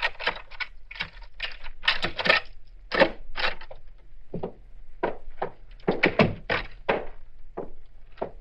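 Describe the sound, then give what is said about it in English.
A house door is unlocked with a key and opened: an irregular run of sharp metallic clicks, rattles and wooden thunks, clustered in bursts with brief pauses between, moderately loud with no voices. “I'll give you my key. Now, let me open the door”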